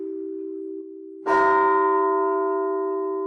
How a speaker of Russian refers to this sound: Колокола разные, как люди. А звонарь, он должен, зная качество каждого колокола, сделать, чтобы было благозвучно. Один из критериев звона – благозвучно.